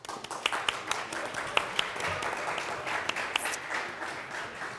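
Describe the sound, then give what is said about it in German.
A crowd applauds to welcome a newcomer, steadily for about five seconds, a dense patter of many hands clapping at moderate volume, with a few sharper individual claps standing out. “ein Applaus.”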